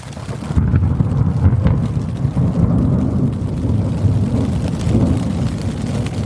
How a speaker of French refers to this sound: L'orage gronde, la pluie s'abat sur ma petite tente. Ça promet.